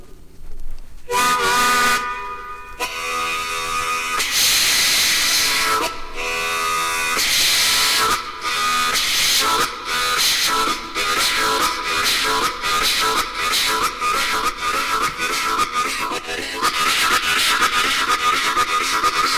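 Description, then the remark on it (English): A harmonica imitates a freight train racing a Model T Ford, with rhythmic chugging chords, whistle-like wails, and honking bursts that speed up, loud, with no one talking. “Folks, this is a race between a freight train and a Model T Ford.”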